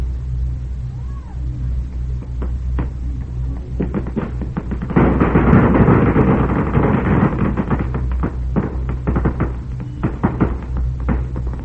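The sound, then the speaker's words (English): A string of firecrackers being set off across the street during a celebration crackles in a dense, roaring burst of rapid sharp pops, loudest midway, then thins into scattered cracks over a steady low rumble. Voices murmur faintly beneath. “There's one being touched off right now across the street. Listen to that string roar over there.”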